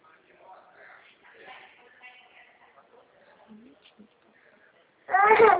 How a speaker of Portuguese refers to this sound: Quem tá chorando?